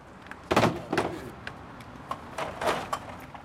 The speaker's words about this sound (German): Draußen vor der Tür lädt der Bierfahrer seine Lieferung ab. Einen vollen Kasten nimmt er mit einer Hand und erzählt von einem Kollegen, der dasselbe mit 5 leeren Kästen tut.